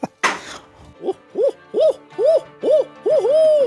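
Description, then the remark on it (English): A person standing up imitates an owl with a run of six or seven rounded, arching hoots in a steady rhythm, fairly loud, following a brief noisy burst at the start. “… has one of the best owl hoots I've ever heard”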